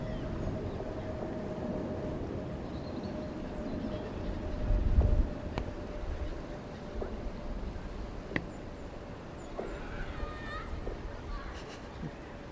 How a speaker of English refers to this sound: And we can listen to the water flowing underneath quite rapidly.